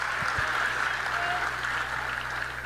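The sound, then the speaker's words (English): An audience claps steadily, a dense, even wash of many hands at a consistent loud level throughout, with no pause or swell and no voices rising above it. “But clap it up for that.”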